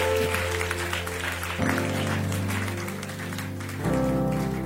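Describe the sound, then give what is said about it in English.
A crowd claps steadily and continuously for several seconds, a dense patter of many hands, with sustained musical tones humming underneath. “Humility clapping.”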